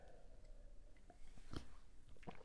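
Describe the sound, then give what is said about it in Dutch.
Someone quietly sips tea, with a soft slurp and a swallow followed by a fainter sip, against a low hushed background with no talking. “Oké, ik neem ondertussen even een slokje thee.”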